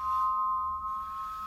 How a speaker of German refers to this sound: um die Säge zum Klingen und Singen zu bringen. Ja, so ist super.